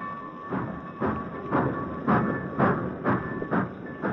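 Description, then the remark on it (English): A train moves out of the station with a steady, rhythmic chugging, about two beats a second, over a constant mechanical hum. It is moderately loud, and no one speaks. “watched as his father's train moved out of the station.”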